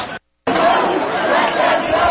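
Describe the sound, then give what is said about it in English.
A dense, steady murmur of many voices fills the scene after a brief silent gap, the overlapping chatter of a large protest crowd on a street with police nearby, no single voice standing out. “They're not snatching them in crowds like this.”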